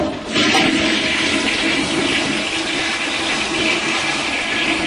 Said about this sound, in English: How can you possibly say you are civil and polite when you use a toilet sound on people you disagree with? It's called humor. Flush this guy, please.